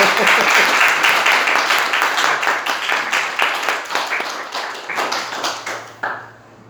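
A crowd applauds with dense, overlapping clapping that holds steady, then thins into scattered individual claps and fades out near the end.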